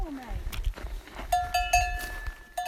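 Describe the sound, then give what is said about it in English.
A cow, its bell clanking in several ringing strikes while hooves shuffle over the ground, with a brief low vocal sound at the start in an open outdoor setting. “Hey cow. Hey pal.”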